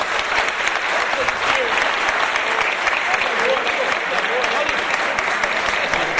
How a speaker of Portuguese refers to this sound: uma salva de palmas para esse compositor aqui, ó.